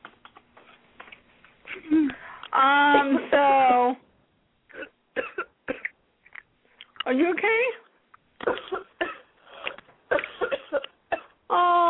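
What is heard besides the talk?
coughing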